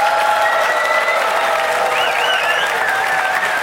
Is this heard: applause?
yes